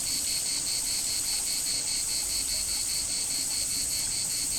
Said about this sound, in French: De ce midi, rêvé, fantasmé, j'ai en mémoire des sons, l'accent, une nostalgie, des étés, enchantés par les cigales.